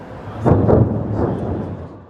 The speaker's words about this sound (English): On Kyiv's central Maidan Square, just before noon, an air raid alert. Within minutes, the sound of explosions. Air defense streaking through the sky.